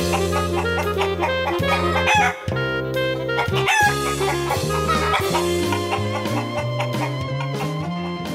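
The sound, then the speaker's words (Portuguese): A rooster crows and hens cluck over a steady, bright musical backing in the jingle of the "Galinha Viajante" segment, the animal calls loud throughout the short passage with no talking. “Agora, mais uma aventura da Galinha Viajante.”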